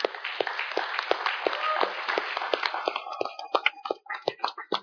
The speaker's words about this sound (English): And let's just give our ladies a round of applause this morning. Amen.